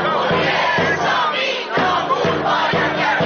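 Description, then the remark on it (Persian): A large crowd of Iranians abroad chants in unison at a protest rally, loud and sustained, with rhythmic bursts of shouted voices repeating roughly every half second to second, giving a steady protest cadence. “همزمان ایرانیان خارج از کشور با تجمعاتشان صدای این اعتراض را به گوش مجامع بین المللی رساندند.”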